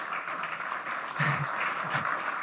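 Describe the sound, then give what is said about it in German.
A crowd applauds to welcome two guests, one of them Elisabeth Brandau, a German cyclocross champion, with steady, dense clapping that fills the whole stretch, swelling a little louder midway, with faint voices mixed in. “Herzlich willkommen, schön, dass du da bist und den beiden gleich mal einen schönen Applaus.”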